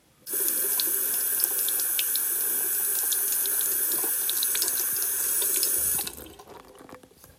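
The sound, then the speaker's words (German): Tap water runs steadily into a sink for hands being washed, a constant hissing stream with small splashes, then cuts off abruptly after about six seconds, leaving near silence. “Da wusch er sich erst die Hände.”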